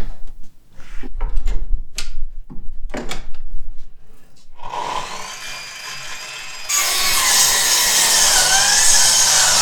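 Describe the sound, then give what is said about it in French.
A few scraping, knocking handling sounds, then a machine saw in a woodworking workshop adapted for plastic starts cutting plastic boards, 10 cm wide and 2 cm thick, to shape for a stool, with a steady whining buzz that turns louder and harsher, continuous with no talking. “Et on va les scier pour les mettre à la bonne forme et pour commencer les premières étapes du tabouret.”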